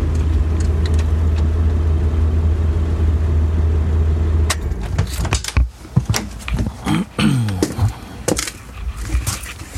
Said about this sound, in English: But let me put my jacket on here and shut the engine off, because we're going to shut it down. So let's do that, and then we'll head in.